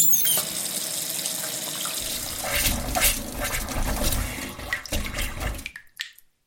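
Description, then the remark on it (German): Cold tap water runs steadily into a glass for about six seconds, a continuous splashing rush that cuts off abruptly at the end. No one speaks. “Bei den Temperaturen ein schön kaltes Gläschen Wasser aus der Leitung.”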